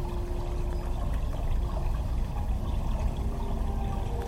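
flowing river water

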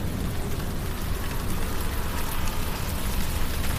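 rain falling

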